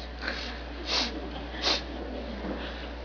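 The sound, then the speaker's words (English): Two sharp, disdainful nasal sniffs, fairly loud, with a couple of fainter breaths around them, made by a person imitating a contemptuous sniff, with no talking. “He says in verse 13, he says, my, how tiresome it is, and you disdainfully sniff at it. That word means to breathe in contempt.”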